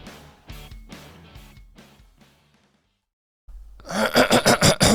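After a quiet pause, someone clears their throat loudly, a rough rasping sound in several quick, rhythmic bursts, with softer tonal sounds fading out beforehand.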